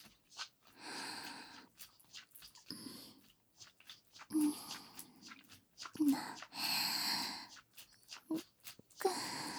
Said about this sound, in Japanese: 目を閉じて、耳を澄ませてごらん。私の熱い吐息が聞こえるだろう。